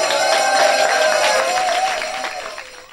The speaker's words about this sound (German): Die Fans, die freuen sich über die Unterschriften und das neue Vereinsfoto und bedanken sich nochmals mit einem grossen Applaus.